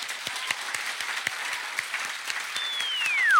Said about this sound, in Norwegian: Men nå en stor applaus til kveldens gjest, Erling Sandmo.